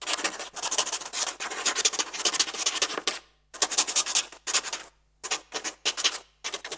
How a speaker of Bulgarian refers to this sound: Това е звук от паче перо, което пише по хартия.